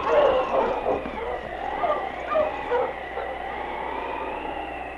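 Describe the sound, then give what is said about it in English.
A sled dog team of huskies yelps and barks together in an excited, continuous chorus as it is urged on through a snowstorm toward 40 Mile, with overlapping yips and high wavering cries filling the whole stretch. “On, King! On, you huskies!”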